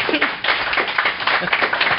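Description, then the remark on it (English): An audience at a panel on the last day of Grand Con applauds the panelists, a dense, steady wash of many hands clapping at once with no break, loud and sustained throughout. “Second of all, can I get a round of applause for my panelists?”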